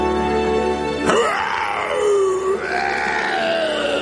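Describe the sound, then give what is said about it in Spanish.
A person imitates a seagull's cry on the radio show Nadie Sabe Nada: a strained, wavering vocal call that swoops down in pitch and rises again, sustained for a few seconds after a sharp onset, with no speech. “Uno de los mejores imitadores de gaviotas de la zona euro.”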